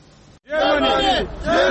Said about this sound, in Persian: فریادهای پناهجویان گرفتار در مرزهای بلاروس و لهستان برای رسیدن به آلمان.